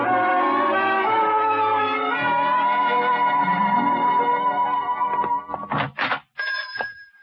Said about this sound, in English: little bells.